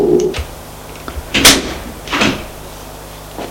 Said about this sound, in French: Elle ouvre la porte. Ils entrent.